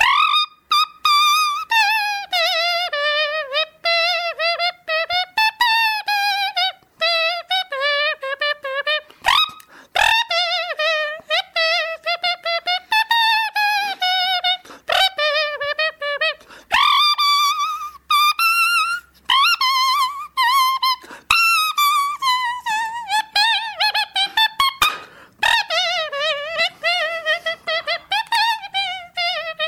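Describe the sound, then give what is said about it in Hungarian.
A bird whistle plays a lilting Hungarian folk song melody, its bright warbling notes rising and falling in steady phrases for about half a minute, with no talking over it. “Az tényleg, az pontosan erre írták, erre a madár fütyre írták.”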